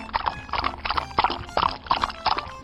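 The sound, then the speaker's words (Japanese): A polka-dot zebra, spotted instead of striped, whinnies in short, bright calls over a steady clip-clop of hooves that keeps an even trotting rhythm throughout, with no one talking. “お、続いて続いて、あそこにいる丸い模様の動物は水玉シマウマ。”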